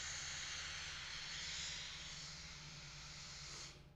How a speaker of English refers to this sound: This is what the universe sounds like. Okay, so this is what the spectrum, I'm going to explain what it is, and this is what the universe sounds like.